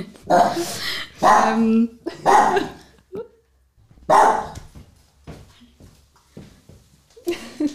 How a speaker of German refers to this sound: Ich protokolliere, der Hund wird auf den Arm genommen und auf die Decke gesetzt. Es wurden Geister angebellt.